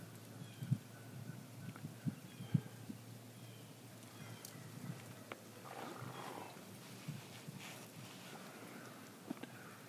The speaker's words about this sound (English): You heard it, that one let out a gobble there. They're going to the hen that's down there in Heartbreak Ridge.